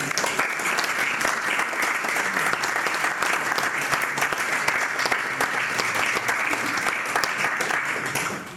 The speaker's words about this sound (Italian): Ringraziamo, facciamo un applauso.